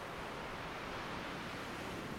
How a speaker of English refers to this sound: Perfectly comfortable and toasty, with just the waves in your ears